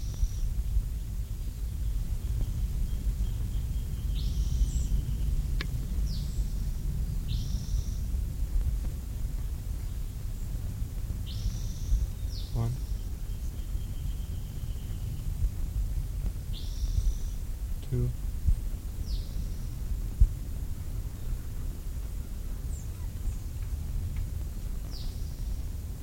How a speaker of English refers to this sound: I can hear the first bird down the hill. But this bird must have moved on.